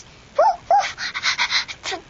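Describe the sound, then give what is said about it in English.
A child's voice imitates a puppy, giving two short high yips followed by a quick run of breathy, whimpering barks, fairly loud with no other talk. “The puppy sound.”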